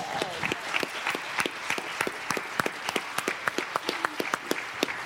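An audience applauds steadily, many hands clapping at once with sharp, overlapping claps filling the room for several seconds, moderately loud and close, with faint crowd murmur underneath.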